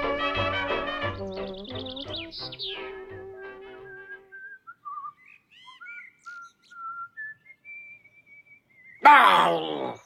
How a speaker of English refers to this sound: Ah, that whistling. I must get up.